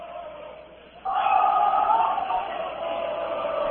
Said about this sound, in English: Troy works it back down right in front of the racket you hear. That's from the JCN student cheering section over here. You see where the band set, but they have moved up to the balcony behind. And now you got a student section.